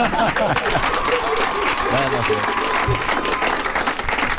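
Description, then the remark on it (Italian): A studio audience breaks into sustained, dense applause, a steady wash of many hands clapping for several seconds, with faint voices murmuring underneath. “Applausi.”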